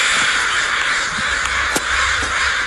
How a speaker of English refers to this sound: It looks like the sky is black with birds. You know, we're in a rural area. We're surrounded by farmland and quite a few dairies and feedlots. And every evening, about 4:30 or so, we have up to about 10,000 crows that come into the city and roost